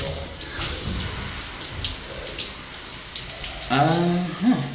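shower water running

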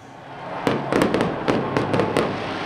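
fireworks display

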